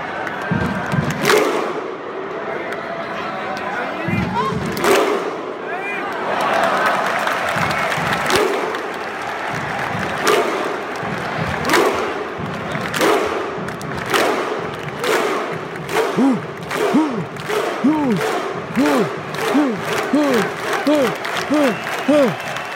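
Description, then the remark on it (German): A played-in recording of a large crowd roaring and cheering, then breaking into loud, synchronized claps, each paired with a deep group shout, with the rhythm steadily quickening toward the end. “Ja, das Klatschen fehlt, aber ich muss irgendwie ein Mikrofon festhalten. Ja, warte, das können wir ja einspielen, das ist ja kein Problem.”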